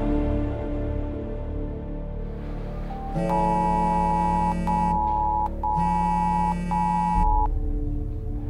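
A harsh electronic emergency alert tone on a phone, a winter storm warning in Skinner, sounds in two long, steady bursts separated by a short gap, loud and buzzy over a low background hum.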